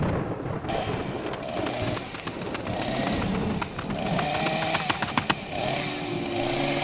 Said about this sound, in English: He has a chainsaw, Marty.